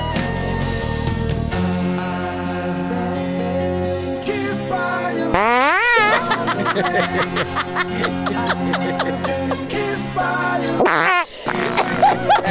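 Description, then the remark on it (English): A rapid series of comedic fart sound effects, some long and wavering, some short and sputtering, loud, strung together continuously with no talking. “The fart choices are so good.”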